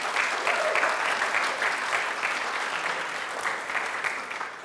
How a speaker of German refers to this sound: Danke. Ein Beifall bitte für die Technik.